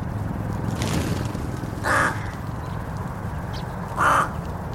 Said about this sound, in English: About 3/4 of a mile away up in the village, there's a rookery, which is just jammed back full of these very smart, very argumentative, highly sociable birds.